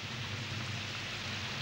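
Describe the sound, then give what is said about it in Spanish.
Heavy rain pours down in a steady, dense hiss with a low rumbling undertone, continuous and even throughout, with no voices. “Maldita lluvia.”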